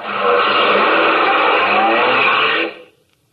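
A loud, sustained roar of a racing car engine, steady for nearly three seconds, then cutting off abruptly into silence.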